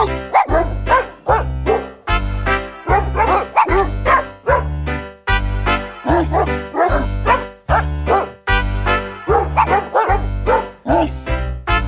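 Dog barks pitched to different notes play a bouncy Christmas tune, each bark landing on the beat over a steady, thumping bass accompaniment, loud and close throughout.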